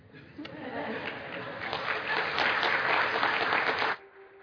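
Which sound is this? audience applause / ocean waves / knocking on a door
audience applause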